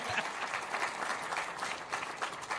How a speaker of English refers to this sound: All right, now give him a big, big, big round of applause